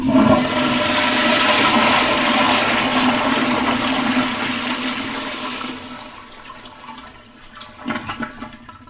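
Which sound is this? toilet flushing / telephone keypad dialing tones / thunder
toilet flushing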